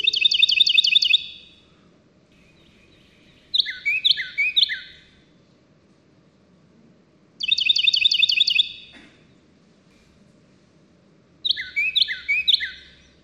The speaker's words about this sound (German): Dann hier der Carolina-Zaunkönig, Hauptverbreitungsgebiet Nordamerika und Mexiko.